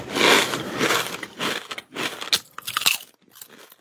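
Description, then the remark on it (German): Crisp, crackly crunching of potato chips from a bag, a series of irregular bursts with short pauses, fairly loud at first and then tapering off, with no talking. “Meine Chipstüte weg von hier.”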